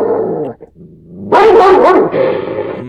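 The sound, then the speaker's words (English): A white coon dog named Aaron Volk barks loudly, a quick cluster of sharp barks and yips after a quieter, growly start, with a brief pause early on. “Bad dog, get away!”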